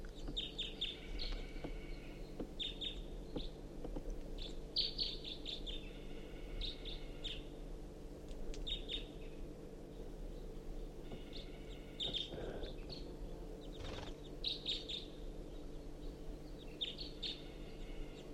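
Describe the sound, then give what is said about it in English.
A single crossbill gives short, sharp chip calls in scattered bursts throughout while foraging in a ponderosa pine directly above a truck, over a steady low engine-like hum. “There is a crossbill, I think one bird, foraging in the ponderosa pine directly above the truck.”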